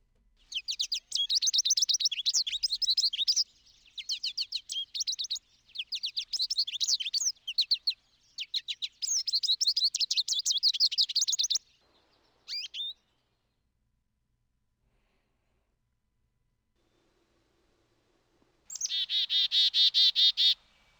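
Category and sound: bird, birds chirping and calling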